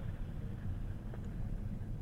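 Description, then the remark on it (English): A steady, low rumble of passing car traffic outdoors outside an office, fairly quiet and continuous for the whole stretch, with a faint hiss of wind and no voices. “I think it might be the cars, because I walked out of the office”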